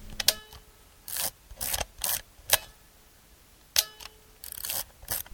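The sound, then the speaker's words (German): A manual camera is being operated: sharp mechanical shutter clicks alternate with short ratcheting film-advance sounds, repeated in two bursts, crisp, with no talking. “Also, wir haben es hier mit einer manuellen Kamera zu tun.”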